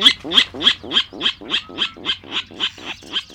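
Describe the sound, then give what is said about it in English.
A Virginia rail's grunting call: a steady series of about twelve rough, pig-like notes at an even rhythm, each with a harsh buzzy texture, heard alone and fairly loud, slowly tapering. “Nearly one quarter of U.S. birds, such as this Virginia rail, rely on freshwater wetlands.”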